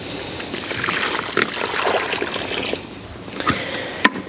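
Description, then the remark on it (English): Water is poured from a bucket into a hole dug down to heavy clay soil to test how quickly it drains: a steady broad rushing splatter that thins out, followed by a couple of brief sharp splashes near the end. “Take a bucket of water and fill that hole up.”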